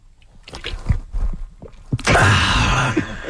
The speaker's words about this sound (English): I'm just very thirsty from this heat wave, so I got to take a sip